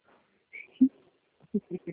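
A crow caws in short, harsh bursts: one loud caw, then a quick run of three more after a pause, with a faint higher chirp in between.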